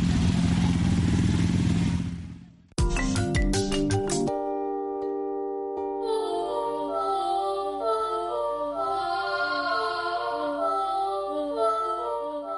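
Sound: motorcycle engine revving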